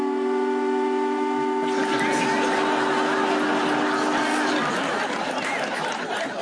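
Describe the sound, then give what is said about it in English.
A factory whistle, played over the radio to mark the end of a game, blows a steady, loud harmonic tone for about four and a half seconds, then cuts off, with a busy crowd murmur and chatter underneath throughout. “Just a reminder, if you are listening up north, that is not really the factory whistle, it's just your wireless set, so no need to get Father's tea on.”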